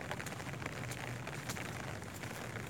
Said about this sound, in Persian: این وقت شب، این سکوت، این صدای بارون برای من یکی از بهترین تجربه های زندگیمه.